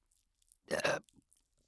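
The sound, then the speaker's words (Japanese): One short, throaty burp lasting about a third of a second, given right at the listener's ear, very close to the microphone and fairly loud, with only faint mouth noises before and after. “ゲップかけられるの最高だね”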